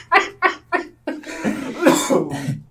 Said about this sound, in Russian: О, все еще кашляю.